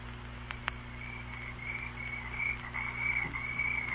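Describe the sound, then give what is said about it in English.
A steady chorus of frogs croaking and trilling fills the Chickahominy Swamp at night, with a low continuous hum beneath and two brief sharp clicks near the start. No one speaks. “We've got to get into the swamp before daybreak.”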